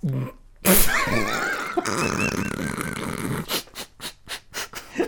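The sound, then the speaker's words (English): A long, loud, gurgling burp right up against a microphone, wavering in pitch for a few seconds, followed by a series of short rhythmic breathy bursts. “Is burping in a microphone acceptable?”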